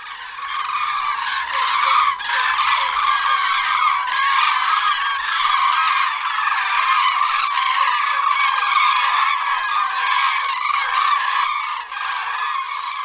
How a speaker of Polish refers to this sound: Gdy ptaki zrywają się do lotu, ich głosy stają się dłuższe i wibrujące.